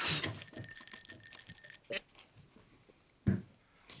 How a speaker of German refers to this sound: Ja, vor allen Dingen muss ich erstmal hier einschenken. Das Geräusch hat schon was Schönes. Ja, mit sich, das, ne? Klingt schon nach Wochenende, finde ich immer.